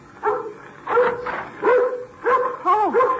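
A dog barks repeatedly in short, yappy bursts, about five or six barks over a few seconds, loud with no one talking.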